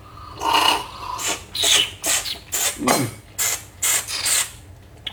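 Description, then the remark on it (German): Someone slurps Japanese Sencha tea in a quick series of about eight short, airy, hissing sucks with uneven gaps, moderately loud and with no talking. “Darf ich da schlürfen?”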